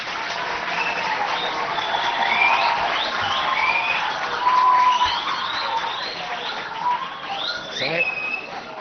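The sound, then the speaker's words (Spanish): An audience in Asturias applauds steadily for several seconds as TV news presenter Pepe Ribagorda is introduced, a dense crackle of clapping with a few high whistles and cheers mixed in, holding at an even loudness throughout. “Él es, un aplauso, Pepe Ribagorda.”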